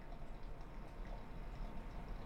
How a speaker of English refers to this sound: I cup the water behind and I blow bubbles.